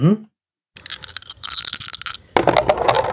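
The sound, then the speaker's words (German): A short bit of voice, a pause, then three dice are rolled again, rattling and clattering in a busy, scratchy burst of clicks, ending in a louder tumbling roll; they land on a 1, a 6 and a 1. “Magst du nochmal gucken, was dann nochmal rauskommt? Nochmal 3 Würfel?”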